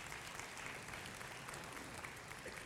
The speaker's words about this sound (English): But last year, 1,515 patients were served through our clinic. People, yes, you can clap.